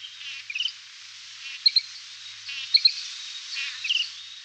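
bird, bird song

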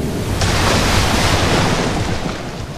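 nature, stormy sea waves crashing

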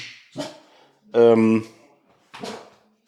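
animal, dogs barking

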